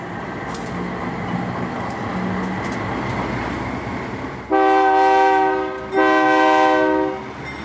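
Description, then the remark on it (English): A freight train rumbles steadily along train tracks about 20 miles north of Mexico City, then its horn blasts twice, a long loud blare followed by a second, each holding a rich chord over the ongoing rolling noise. “is sitting quietly near the train tracks about 20 miles north of Mexico City.”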